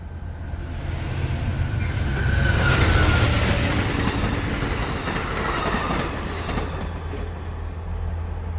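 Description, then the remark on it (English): A passenger train speeds past an idling freight train in the Portland Triangle, a loud, continuous roar of wheels and rails swelling then holding steady, over the deep, constant drone of the idling freight locomotive. “A passenger train. It's speeding past an idling freight train in the Portland Triangle.”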